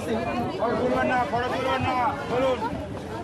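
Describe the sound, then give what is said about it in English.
A dense crowd of thousands in Kolkata pushes and shoves at a gleaming white Thai temple while men and women in khaki uniforms try to control them. Many overlapping voices murmur and chatter, blending into a steady, loud hubbub with no single speaker standing out. “Men and women in khaki uniforms are trying to do crowd control as thousands push and shove.”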